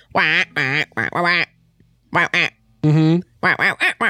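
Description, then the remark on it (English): A person imitates a duck, letting out a run of nasal quacks in short, uneven bursts with brief pauses between them, loud. “When did you learn how to speak space duck stargazer?”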